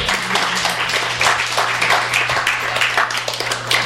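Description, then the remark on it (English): An audience breaks into a round of applause, a dense, steady wash of many hands clapping at once, loud and sustained for several seconds with no talking over it. “Round of applause.”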